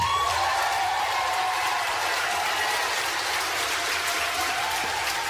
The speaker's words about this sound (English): So now people start to stand up. If you can't see, if you're just listening, people start to stand up and the applause goes on and on and on.